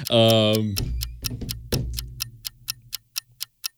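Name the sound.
clock ticking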